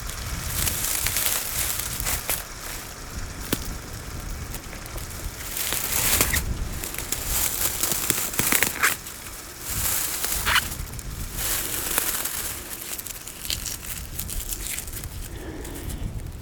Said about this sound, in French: Ces herbes sèches, elles crépitent à vos oreilles.